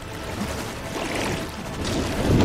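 Rushing, churning water swells steadily, a broad splashing wash like waves or a strong current, fairly loud, growing fuller toward the end with no voices.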